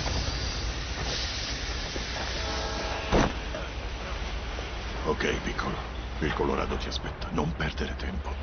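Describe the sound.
A train stands at a station platform under a steady rumbling hiss, with a brief tonal squeal, one sharp metallic clank, and people talking over the noise.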